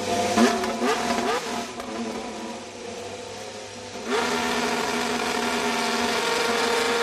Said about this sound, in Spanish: en un día en el que sabemos la fecha en la que veremos el AMR 25, el coche de Alonso, que es el 23 de febrero, pero ya tienes el sonido del motor, ¿no? Del nuevo Así coche. Lo han arrancado hoy en la fábrica de Silverstone. Vamos a escucharlo.